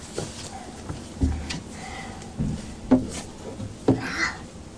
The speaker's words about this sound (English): Thunder? No, that wasn't thunder. Is it? It was just a car door. Car door? Yep. Somebody just shut in their car.